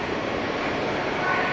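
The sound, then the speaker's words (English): A steady, broad rumble of a train pulling in on the other side at Union Station, continuous and fairly loud throughout with a faint high whine near the end. “And there's a train coming in on the other side.”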